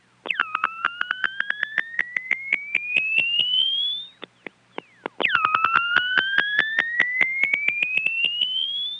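A warbling telephone test circuit tone from Westbury, Long Island, an electronic whine that slowly climbs in pitch while pulsing rapidly. It plays loud and alone, breaks off briefly, then starts its rising sweep again.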